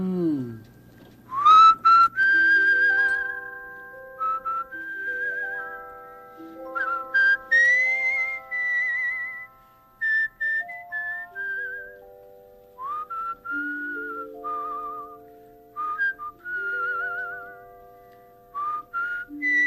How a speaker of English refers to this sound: You know, I've never really whistled a lullaby before.